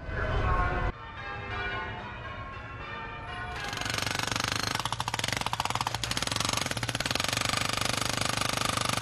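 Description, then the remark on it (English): A loud din on a busy London street: a jackhammer or drill pounds in rapid bursts over heavy engine rumble from buses, with ringing church bells mixed into the chaotic, continuous noise. “So we heard drills and buses and I think church bells in there as well, didn't we, Rob?”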